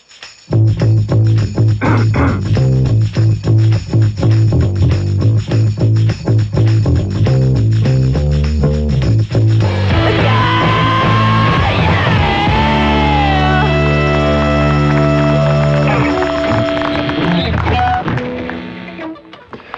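A loud rock song played on ABC radio's Evenings program, with a driving, steady drum beat and a chugging bass line, shifting midway into sustained guitar chords and a shouted, soaring vocal that runs to the end.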